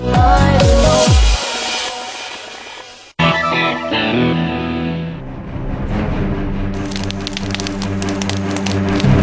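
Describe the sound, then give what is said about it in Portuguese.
A loud fire in the Cerrado at night crackles and roars steadily as it spreads rapidly through dry brush, a dense continuous hiss with sharp snapping pops, briefly cutting out before surging back even fuller. “O fogo se alastra rapidamente, vai engolindo a mata seca.”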